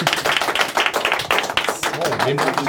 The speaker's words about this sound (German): Applaus bitte.